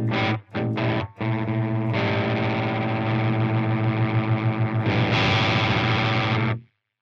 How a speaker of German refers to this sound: Aber da gibt's auch einen Ringmodulator. Machen wir den an vielleicht. Wie der klingt.